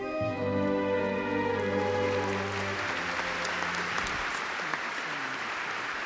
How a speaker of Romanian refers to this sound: Emoțiile spectatorilor în a revedea viața pontifului dispărut s-au tradus în aplauze prelungite, care au devenit mai intense când imaginele ficțiunii au lăsat locul celor reale ale decanului pe atunci al Colegiului Cardinalilor, Iosef Ratzinger,